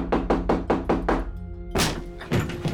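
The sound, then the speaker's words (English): Loud knocking on a door by a team of federal and local authorities, ten days after Pearl Harbor: five quick, evenly spaced raps, a brief pause, then two heavier pounding blows, forceful, with a low hum underneath and no voices. “a team of federal and local authorities came knocking on Ebell's door”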